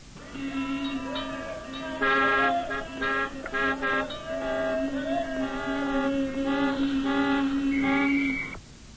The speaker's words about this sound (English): You've most likely heard a lot of traffic noise.